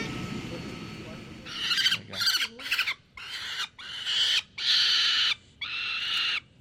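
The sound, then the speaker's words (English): A 22-day-old female peregrine falcon chick, taken out to be fitted with a leg band, gives a run of harsh, high-pitched screeching calls, about seven bursts in quick succession, loud, with a brief low murmur of background noise at the start. “So here we have a baby peregrine falcon.”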